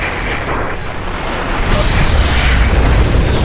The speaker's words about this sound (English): The helicopter takes off, and you're looking out the back of it, and suddenly there's this nuclear explosion that goes off.